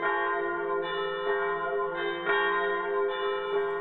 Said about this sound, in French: une remarque d'une amie musicienne qui disait qu'en fait les plus grandes symphonies avaient été écrites dans ce son perpétuel de cloches en arrière-plan. Et on peut se demander si parfois ils ne l'intégraient pas eux-mêmes dans leur composition.